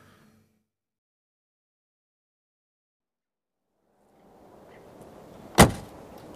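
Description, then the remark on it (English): After a long stretch of near silence, a car's rough engine and road rumble swell up quickly as it is driven fast along a farm track, broken by one sharp jolting clunk, then keep rattling on. “I'm not letting you take the car if you're going to drive like that.”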